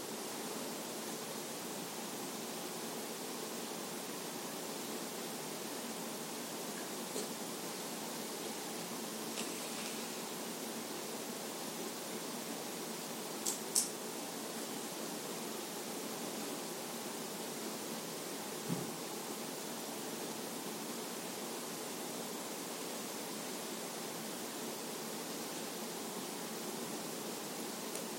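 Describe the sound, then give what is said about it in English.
A heating system runs with a steady, even whoosh of airy noise, unchanging throughout, broken only by a couple of faint ticks. No one speaks. “Enjoy the sound of the heating system.”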